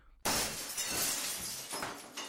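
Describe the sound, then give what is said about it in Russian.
Window glass shatters behind a heavy curtain in Paris with a sudden loud crash, followed by a couple of seconds of bright tinkling shards falling and scattering, with no voices. “Больше ничего приятного подумать не успела, потому что услышала звон оконного стекла, осыпавшегося за тяжелой портьерой.”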